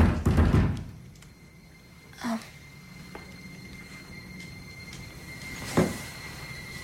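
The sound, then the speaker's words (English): Two separate dull knocks on a door, a few seconds apart, each a single solid thud over a quiet, faint hum, after a brief muffled rumble at the start. “Then who would be knocking?”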